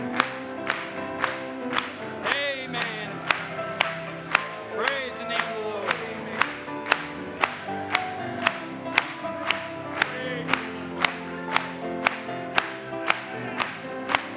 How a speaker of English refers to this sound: Let's clap it to him.